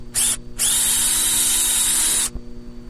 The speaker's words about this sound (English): Now the bees are in there right now in a panic. Well, yeah. I mean, you just ran a drill through their parlor. And what they do is they immediately start sucking up the honey and repairing the damage.